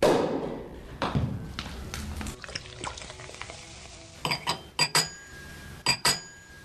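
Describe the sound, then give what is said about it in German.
Champagne corks pop, several sharp, loud bangs arriving in quick clusters over a fizzing, clattering background, with no one speaking. “Und da knallen schon die Sektkorken.”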